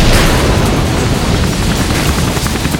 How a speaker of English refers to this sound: One of the still operable Soviet choppers exploded, a fireball of yellow and black belching skyward.